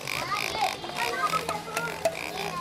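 A tail-wagging toy pig in a toy store in Johannesburg gives off a run of repeated, squeaky electronic oinks at a steady moderate level, mixed with a few sharp clicking taps in the background.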